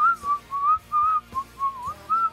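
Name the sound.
person whistling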